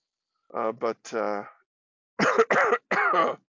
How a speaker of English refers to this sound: See, and I'm coughing and having a good old time draining.